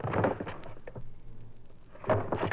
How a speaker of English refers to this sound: Drawers shutting and opening and shutting.